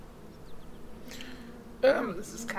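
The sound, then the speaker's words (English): A steady, droning hum of many angry bees in a beehive, growing louder and more agitated partway through, with no one speaking over it. “how do we know beehive that it's angry buzzing and not just regular bee buzzing?”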